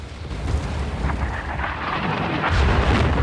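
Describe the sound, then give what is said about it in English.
Two large bomb explosions strike a city, hitting a suspected Ba'ath Party headquarters, watched from a distance: a deep, continuous rolling rumble that swells again near the end, heavy and distant-sounding with no voices. “As the Marines watch from a distance through binoculars, two enormous explosions strike the city.”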